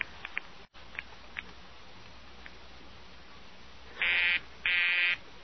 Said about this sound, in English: The line's busy, sir. It's their disc jockey. He takes phone requests. He's always busy when he's on.